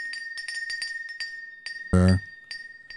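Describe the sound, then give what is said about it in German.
Glass beer bottles clink together in a toast, a run of light taps followed by one loud, ringing knock that hums briefly before fading. No one speaks. “Ja, Prost.”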